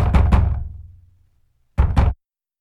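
Two pairs of firm, resonant knocks on a door, each double rap followed by a short pause. The first pair rings out with a brief hollow decay. The knocks are loud, with no voices.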